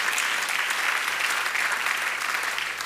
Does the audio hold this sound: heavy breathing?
no